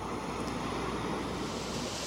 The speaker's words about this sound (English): At his offices, we sampled an array of machines, emitting everything from basic white noise. Sounds a little bit like a fan. Right. To so-called pink noise.